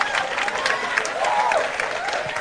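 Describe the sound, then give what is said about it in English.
An audience claps steadily in a dense, even wash of applause for a couple of seconds, with a few voices calling out over the clapping. “Clap. Clap.”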